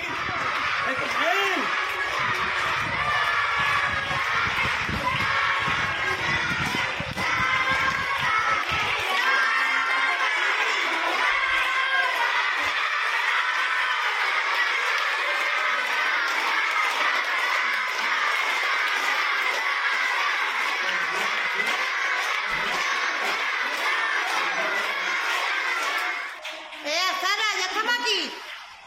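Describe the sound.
A large group of schoolchildren, a girl's classmates, cheer and shout continuously as they form a corridor for her arriving at school in a wheelchair with her mother; a dense, high-pitched roar of young voices with scattered laughter that stays loud throughout before briefly dipping near the end.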